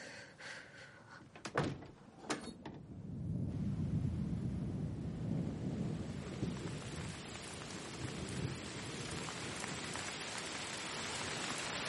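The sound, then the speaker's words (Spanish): Heavy rain pours steadily outside, a dense, continuous hiss and patter that swells after a few sharp clunks near the start and then holds loud and even to the end. “En el exterior llueve con fuerza.”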